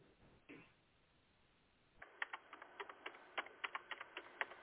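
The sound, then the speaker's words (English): Rapid keyboard typing of a message starts about halfway through, a quick irregular series of sharp clicks, following a quieter stretch with a faint brush of noise near the start. No one speaks. “I'm typing to Chuck right now.”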